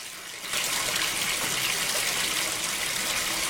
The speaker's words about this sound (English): stares at the water running from the tap and filling the bath.